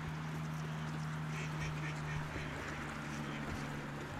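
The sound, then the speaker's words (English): Ducks being fed at a pond quack and honk in a busy, overlapping chorus, with calls coming steadily throughout and a constant low hum running underneath. “Do you think we fed ducks for enough for one podcast?”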